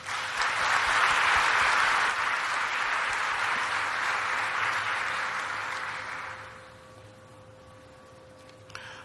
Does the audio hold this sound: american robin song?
no